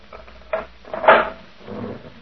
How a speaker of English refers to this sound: You may open the cell door for me, Sergeant.